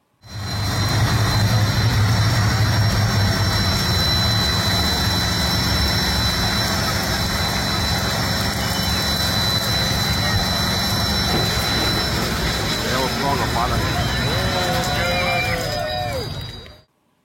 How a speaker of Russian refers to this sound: В кузове жжет резину мотоцикл, старательно добывая огонь из деревянного настила, и сам пикап под свист турбины срывает крутящим моментом аплодисменты, а затем и шину с обода.